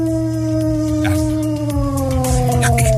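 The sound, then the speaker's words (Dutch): A dog howls in its sleep in one long, sustained, wavering tone that slowly drifts downward, loud, with no talking. “Mijn hond produceert soms dit geluid in zijn slaap.”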